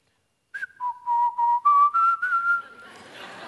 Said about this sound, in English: Another one that's worse, and I find myself whistling around campus this.